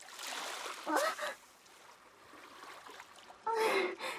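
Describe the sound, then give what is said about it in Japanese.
Sudden waves rush in twice onto a shore, fairly loud, with a softer hiss of water between the bursts and short startled gasps from a voice as a person gets wet. “急に波が来てびっくりしましたね。”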